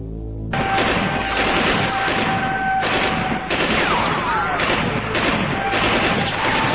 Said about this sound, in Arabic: باتت كربلاء على دوي من الرصاص بين الطرفين، مما أسفر عن سقوط العديد من القتلى والجرحى.